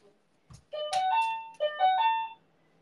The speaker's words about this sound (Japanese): エイペックス中でも気づけるようにと思って、音量バカみたいに上げたバカでかインターホンです。